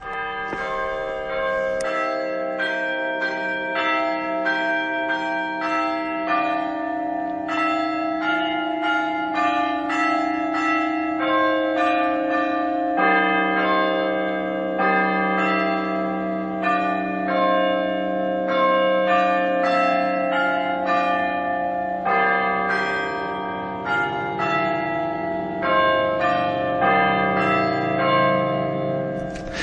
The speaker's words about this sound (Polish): Pięknie nam rozebrzmiały dzwony w tej melodii fatimskiej